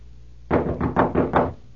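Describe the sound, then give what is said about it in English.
A series of about five firm knocks on a wooden door in quick, steady succession, loud, with no voices. “There. Open the door, dear.”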